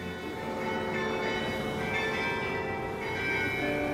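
The church bells of St. Colman's Cathedral, overlooking the harbour at Cove, ring out a tune, their deep, resonant tones overlapping and sustaining in a continuous wash of chiming at a steady, fairly strong level, with no voices.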